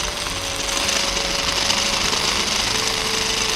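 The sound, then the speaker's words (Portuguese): A food processor processes cooked brown rice into a very thick paste, its motor whirring loudly with a dense, grinding buzz and a faint constant hum throughout, no voices present. “Para agregar tudo e processa de novo. Vai ficar uma pasta bem grossona.”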